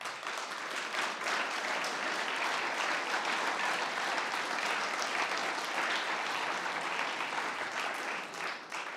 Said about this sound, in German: Und ihr Lieben, ich finde es irgendwie mal angebracht, wenn wir diesem Jesus und der Kraft der Auferstehung, mit der er uns neue Hoffnung schenkt, heute Morgen mal nochmal einen kräftigen Applaus geben.